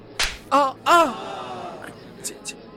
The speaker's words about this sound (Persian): چه شد؟ چه می کنی مرد؟ چرا بی نوا را سیلی زدی؟